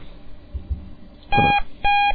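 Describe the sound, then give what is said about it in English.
Two short electronic beeps from the Starfight game alerting to a new message, each a bright steady tone with harmonics, the second following half a second after the first, over a faint low background hum. “When you get a new message, the Starfight game will make that beeping sound.”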